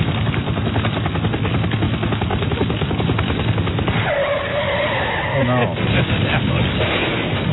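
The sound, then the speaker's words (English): A helicopter's rotor thumps in a fast, steady chop overhead, loud and continuous throughout, with a brief whining engine tone rising through the middle. “How come they crashed, but I'm still hearing the helicopter?”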